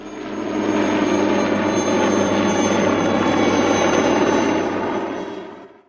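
A helicopter drones steadily and loudly, its engine roar and rotor hum holding constant for several seconds before easing off at the end. No one speaks.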